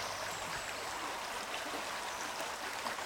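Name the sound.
flowing stream water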